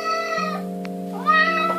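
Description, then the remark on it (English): A cat meows with a drawn-out, rising cry, heard clearly over a steady humming tonal background. There is no talking. “And speaking of loving yarn, let's talk about cats.”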